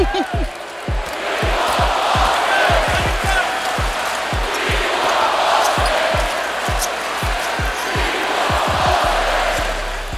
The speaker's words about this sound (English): And now the crowd is starting to feel it. And this is what they started to chant.